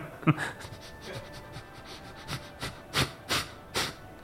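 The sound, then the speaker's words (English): A person imitates a dog sniffing and panting, with quick breathy puffs that build into a rhythmic series of sharp exhalations toward the end. “So dog sniffing.”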